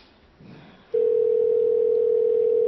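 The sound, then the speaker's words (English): A telephone ringback tone sounds while calling: after a moment of faint background noise, a single steady electronic tone starts abruptly and holds loud and unbroken to the end, with no talking. “Nobody answers their phones anymore.”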